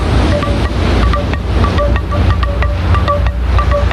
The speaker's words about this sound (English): Because the ocean have a sound, and the ocean has a beat.